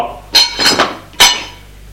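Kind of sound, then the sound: household object, dishes and cutlery clinking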